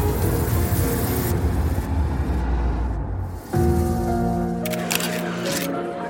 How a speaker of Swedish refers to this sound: Poliserna kastar sig undan, men bilen kör rakt över den andra gärningsmannen. Sen kör Mercedesen iväg.